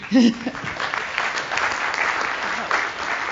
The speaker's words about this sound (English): Or my talk was perfect, and no one has any questions. All right, well, one more round of applause then.